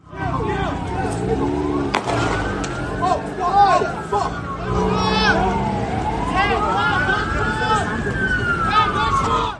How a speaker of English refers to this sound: The following audio is from that very moment. It contains sounds of gunfire as police fire at Ms. Battison's client.